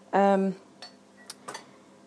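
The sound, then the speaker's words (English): Crockery and dishes clink together in a few short, sharp knocks, spaced irregularly, as someone sorts out crockery in the UK, following a brief steady hum at the start; the clatter stays fairly quiet throughout. “I have somebody coming in a bit, so I'm just sorting out crockery and stuff. Apologies for the sort of dishwasher sounds.”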